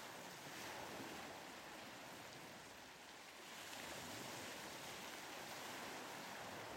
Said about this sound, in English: The sound of the waves flows like a natural meditation, as constant and soothing as breathing itself.